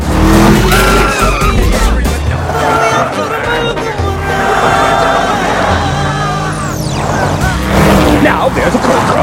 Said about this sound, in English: The car zooms crazily over the sand.